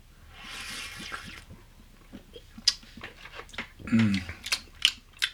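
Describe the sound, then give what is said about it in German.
A quick clink of glasses rings out in a toast, followed by a run of wet gulping and swallowing as a sweet, ginger-spiced butterbeer is downed in one go, with small liquid clicks and a brief voiced exhale near the end. “Okay, dann lass uns noch anstoßen. Ex.”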